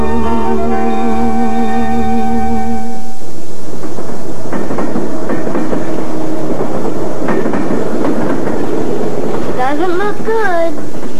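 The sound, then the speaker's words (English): A train horn sounds a steady chord, then a loud train rumbles past with rhythmic clattering over the rails and a wavering metallic wheel squeal near the end. “Trains are stopping here since the railroad started fixing the switch down the line.”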